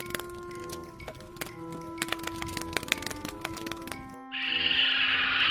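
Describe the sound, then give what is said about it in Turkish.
A woodpecker pecks at wood in quick, irregular bursts of sharp taps for about four seconds over a steady background hum, then a brighter rushing hiss takes over. “Ağaç kakanlardan çakallara kadar...”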